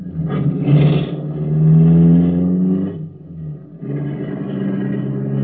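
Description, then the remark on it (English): A car engine revs and pulls away, its low rumble rising in pitch as it accelerates, easing briefly, then steadying into a continuous drone. No one speaks. “We'll drive once around the block now and hit the bank at 11:20 sharp.”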